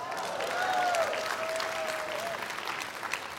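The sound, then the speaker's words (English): A church audience claps steadily for a few seconds, a dense, even patter of many hands that holds its level throughout, with a faint high voice or whistle briefly rising over it. “Yeah, you all clap because you're not in Sunday school.”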